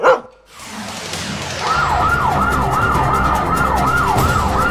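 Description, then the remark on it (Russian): An ambulance siren wails in a fast, repeating up-and-down pattern, loud, rising in after a brief sharp sound and continuing steadily over rumbling traffic noise. “И однажды скорая привезла к нам девочку.”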